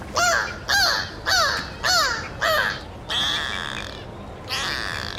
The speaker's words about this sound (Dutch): En moet je horen, beluga's zijn de hele dag met elkaar aan het kletsen. Het zijn echt super sociale dieren. Geen wonder dat ze ook wel de kanaries van de zee worden genoemd.